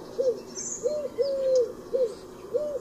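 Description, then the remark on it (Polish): A Eurasian collared dove gives soft, hollow three-syllable coos repeating in a steady rhythm, the second syllable drawn out and accented, the third lower and abruptly cut off, clear against quiet outdoor ambience with faint birds in the background. “Głos sierpówki, pospolitego gołębia zamieszkującego nasze miasta i wsie, to głuche pochukiwanie, przypominające nieco głos kukułki.”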